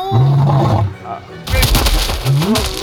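A deep, drawn-out roar opens, followed by a burst of heavy, crunching impacts and a second rising roar, loud: a lion repeatedly pounding a person into the ground, then giving a triumphant roar.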